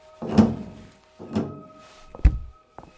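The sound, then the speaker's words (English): The door of Mr. Blair's windowless office swings and shuts with a solid thud, then a lock clicks sharply into place, followed by a small final click. Fairly loud, with no voices. “You seem to have locked the door!”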